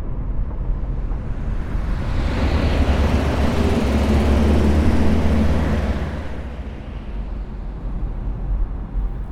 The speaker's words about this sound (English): We've been driving for a while.